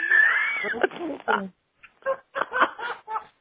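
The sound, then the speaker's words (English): A person's voice mimics a cat's yowl, a short, wavering, drawn-out whine, followed by choppy snickering and voice sounds. “A cat with a yeast infection.”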